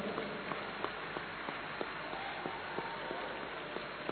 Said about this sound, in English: Come on, put your hands together.